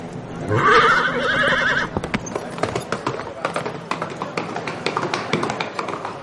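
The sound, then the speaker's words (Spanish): A horse lets out a loud, wavering neigh, then its hooves clip-clop in a steady rhythm, a string of sharp, even taps that carry on to the end, as Tomás rides it away along paths at sunrise. “José contempla emocionado cómo se aleja Tomás a lomos del caballo. Cabalga por caminos a medida que el sol va saliendo por el horizonte.”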